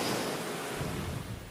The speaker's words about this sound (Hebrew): או, יש לנו צליל של ים.